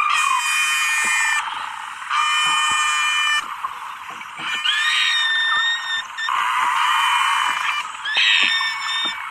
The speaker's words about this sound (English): We've got a recording of Nosy speaking human. Here it is. Dr. Ridgway doesn't argue that Nosy is saying real words, but these noises are very different from normal beluga songs.